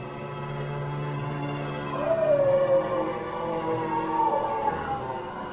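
A dog attacking a man howls in long, wavering, rising and falling cries over a low, steady rumble, loud, lasting several seconds with no one speaking.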